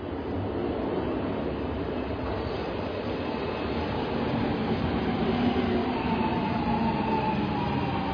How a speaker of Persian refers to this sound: متروی تهران.